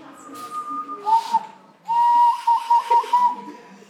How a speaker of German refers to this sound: Du kannst nicht pfeifen. Du musst nur deine Lippen spitzen und durchpfeifen.